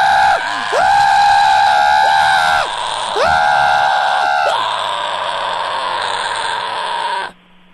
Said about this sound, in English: And then once he says it, please then we record both just a scream yell, right? To share on justscream.baby. Yes. Wait for the beep, then hang up when you are done.